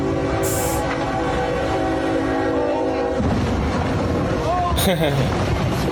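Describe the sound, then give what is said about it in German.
A train approaches with a long, blaring horn, then slams into a wind turbine blade that a truck was trying to move across the railway track, with a loud, sustained grinding crash and scraping debris noise. Voices can be heard faintly in the background. “Jetzt kommt der Zug.”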